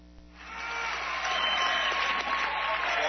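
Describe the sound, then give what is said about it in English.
A large, packed arena crowd breaks into cheering and applause, swelling quickly after a quiet start into a dense, sustained roar of clapping and voices that holds steady to the end. “Again, you have an indication of the crowd here when they, right after the national anthem, they announce, folks, we'd like you to squeeze together.”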